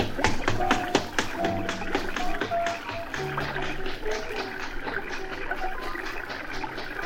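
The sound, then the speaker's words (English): A man's running footsteps patter quickly and unevenly as he runs off, a dense stream of sharp taps that holds at a steady loudness throughout, with faint tonal murmurs mixed in underneath. “Then things got a little confused, because I distinctly heard his footsteps running off.”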